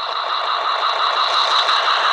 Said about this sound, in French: Les voitures passent.